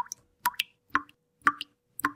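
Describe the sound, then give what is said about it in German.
Water drips from a tap into water below in a slow, steady rhythm, about one drop every half second, each landing with a clear, resonant plop and no voices around it. “What causes the sound of a dripping tap and how do you stop it?”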